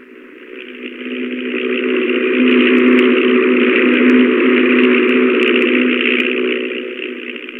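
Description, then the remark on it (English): The engine of an old, rickety 1923 stunt plane carrying a wing walker drones steadily while flying upside down over a long distance, a continuous buzzing roar that swells in loudness, holds, then eases off slightly toward the end, with no voices. “One day he went up in that rickety plane with the trick wing walker, Tim Robbins, to perform the hazardous stunt of flying upside down over a long distance.”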